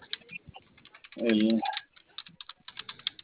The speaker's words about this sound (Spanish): El teclado está prendido. A ver, ¿puede ingresar alguna tecla? Bueno, apretar. Sí, ahí está una. Se escucha.